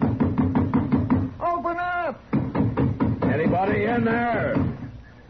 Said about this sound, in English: Oh, we'll find out. Go ahead and knock. Anybody in there?